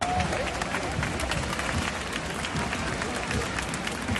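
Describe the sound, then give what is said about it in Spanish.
A large crowd applauds and cheers the King and Queen of Spain at a military parade in a sustained, dense ovation, steady in loudness throughout, with clapping and a roar of voices blending into one continuous wash of sound. “Pitada la llegada y a la salida de Pedro Sánchez, ¿qué contrasta con la ovación que hoy han recibido los Reyes de España?”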